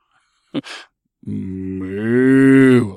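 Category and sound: animal, cow mooing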